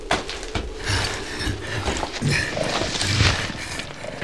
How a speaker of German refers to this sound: Augenblicklich stoppte Donovan sein Pferd, sprang aus dem Sattel und beugte sich besorgt über seinen Angestellten.